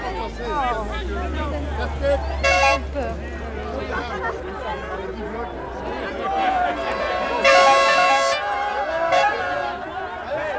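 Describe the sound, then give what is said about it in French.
Cars of a race convoy roll past a chattering roadside crowd, engines rumbling low, with a couple of loud horn blasts cutting through, one early and a longer one later. “Attention, les voitures.”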